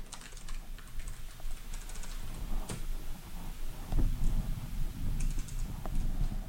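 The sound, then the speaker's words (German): Steady, rapid typing on a computer keyboard while programming, a dense run of small clicky keystrokes with a few sharper taps, moderately loud, with no voices. “Muss ich das nicht alles live hier tippen?”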